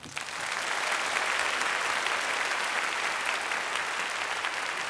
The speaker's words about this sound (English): Please join me, first and foremost, firstly, please clap for this amazing orchestra one more time.